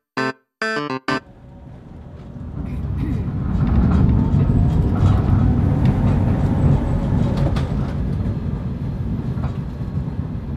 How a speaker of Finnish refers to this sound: Tatu ja Patu saapuvat raitiovaunulla Linnanmäen pysäkille. Juuri oikeaan aikaan.